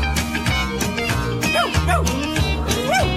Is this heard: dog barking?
yes